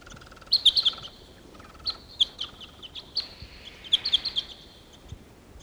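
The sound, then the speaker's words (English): Two wild birds sitting together in the top of a tree chirp in quick, high-pitched bursts, with a flurry of bright notes at the start and again near the end, separated by sparser single tweets. “Here's the wild bird.”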